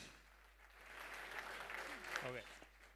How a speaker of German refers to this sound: Applaus im Saal.